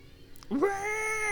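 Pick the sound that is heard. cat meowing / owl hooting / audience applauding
cat meowing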